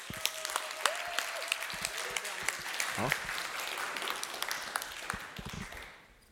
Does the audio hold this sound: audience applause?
yes